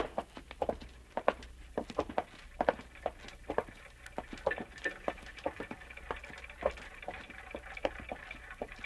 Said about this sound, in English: What's that? That noise? You mean the clocks, madam? There are more than 100 clocks in this room. I'm very fond of them.